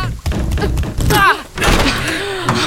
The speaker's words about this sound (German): Na, die Tür geht nicht auf. Dann drück fester, die war letztes Mal auch offen. Ich drück ja schon.